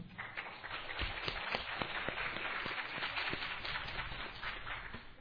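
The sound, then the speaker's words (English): An audience at an OA birthday party event claps steadily throughout to welcome the first speaker, many hands overlapping into a dense, even wash of crackling claps at a moderate level, with no one speaking over it. “Okay, I don't know if the clapping helps, but I'm glad.”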